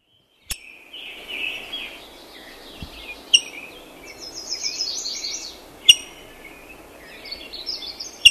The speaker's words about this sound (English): We opened with the call of the rose-breasted grosbeak. Let's hear it again to refresh our memory.